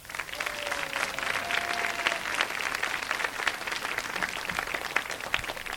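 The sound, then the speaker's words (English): Steady, dense applause from a large audience clapping a Scout troop (Order of the Arrow, Troop 4, Tampa) onto a stage to perform, many hands clapping at once in a continuous wash of sound that holds at an even level throughout, with a faint tone briefly audible underneath. “Let's clap them onto the stage.”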